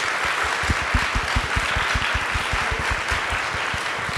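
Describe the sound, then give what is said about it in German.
Steady crowd applause fills the whole stretch, a dense wash of many hands clapping at once with sharp individual claps punching through, holding an even level throughout with no voices over it, as author Dörte Hansen is called onto the stage as guest of the show Eat, Read, Sleep. “Dörte Hansen, bitte auf die Bühne. Riesigen Applaus.”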